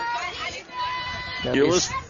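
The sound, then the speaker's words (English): A lively ballgame crowd in Burton, Texas, at night, during a game between Washington County and Columbus, fills the air with overlapping chatter and shouts, a steady babble of many voices that swells louder near the end with a few raised, excited calls. “As you can tell, we're in front of a raucous crowd here in Burton, Texas tonight.”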